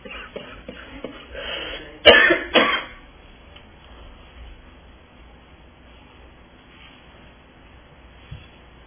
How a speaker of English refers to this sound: while I'm coughing and having this drink, would you read verses 17 through 19 for me again, please?